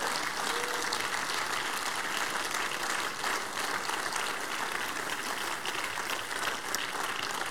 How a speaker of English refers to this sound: Stand to your feet, everybody. Give the Lord the biggest clap of praise. Give the Lord the biggest clap of praise.